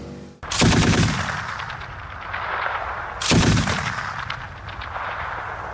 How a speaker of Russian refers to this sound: Стріляємо бронірованими осколочними, стріляємо.